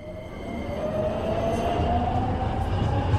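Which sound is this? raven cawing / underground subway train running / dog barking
underground subway train running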